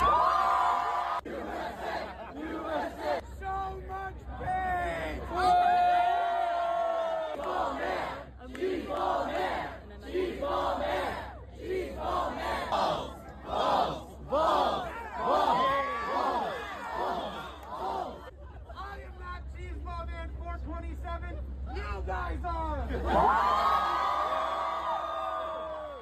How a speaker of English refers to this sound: So yeah, apparently the crowd was cheering him on. I mean, when I say a lot of people showed up, I'm talking about hundreds of people who literally had nothing better to do than to enjoy pretty much a live YouTube video, because that's what this was.